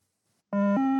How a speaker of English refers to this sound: Start level one, one. So as soon as you hear the beep, you run to the second line. You stop and wait at the other line, 20 meters away.